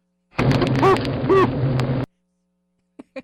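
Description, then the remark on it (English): Startled honeybees give two brief whooping pulses, each a quick upward-then-downward tone, over a dense, loud buzzing of the hive. The buzzing cuts off abruptly, followed by two faint short sounds. “Have you heard what the honeybees say when they're startled?”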